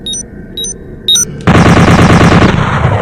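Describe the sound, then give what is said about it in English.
Three short, high electronic beeps, then a loud burst of rapid automatic gunfire from an automatic pole gun in a video game that rattles on steadily for over a second with a fast, even rhythm. “There's basically. Automatic pole gun.”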